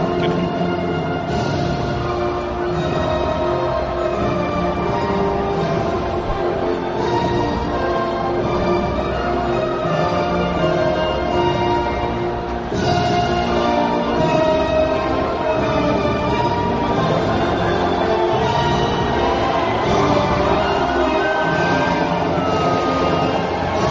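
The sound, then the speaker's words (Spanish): The Spanish national anthem plays loudly through the Khalifa Stadium before Spain's match against Uruguay, a steady, sustained instrumental melody with rich tones over a constant roar of crowd noise, with no one talking. “Suena el himno nacional de España.”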